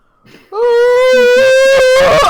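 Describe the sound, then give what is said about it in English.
A single loud, drawn-out yawn, voiced and sustained for about two seconds after a brief breathy intake, with no one talking over it. “Have you know I'm yawning?”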